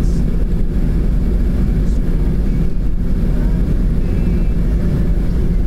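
Steady, loud low rumble of a car driving slowly on a snowy road in a cold climate, following behind another car, the engine and tire noise droning continuously from inside the vehicle with no voices.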